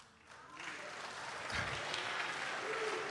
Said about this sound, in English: Come on, let's acknowledge him for who he is based on how you see him, and let's put together some clap and some lifting of hands and raising our voice with it. Let's offer that to God.